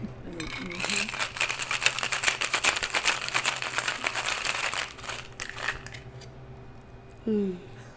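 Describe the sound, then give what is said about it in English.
Whiskey poured over mint leaves: a steady, crackly splashing rush that runs for about four seconds before trailing off, followed by a brief, soft tonal sound near the end. “Pouring this whiskey over this mint so we can have some fun.”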